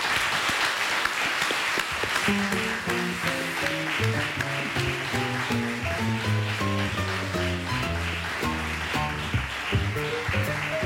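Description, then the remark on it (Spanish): A crowd at the University of Vigo applauds a table of mycologists steadily for about eleven seconds, a dense wash of clapping, while a bright melodic tune with a bass line starts underneath after a couple of seconds and plays on. “Un aplauso para todos.”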